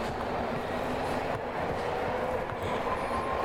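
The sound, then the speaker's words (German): A train rumbles steadily, a continuous loud roar of wheels and carriages with faint squeals, filling the whole moment with no voices over it. “Fahr leiser Zug, ich kann sonst nicht so gut gucken.”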